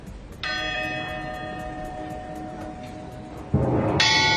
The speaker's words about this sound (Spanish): Seguro que te acuerdas de esta campana porque la tocaban los atletas que ganaban las pruebas de los Juegos Olímpicos. Bueno, pues a partir de hoy su lugar va a ser Notre Dame para unirse al resto de campanas de la catedral.